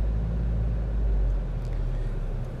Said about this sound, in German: Ich bin jetzt noch kurz im Auto unterwegs, gleich zu Hause, aber genau das mache ich jetzt auch.